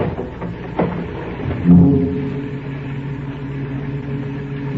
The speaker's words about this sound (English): I heard him open the trunk in the back. I listened for further sounds, but there was nothing.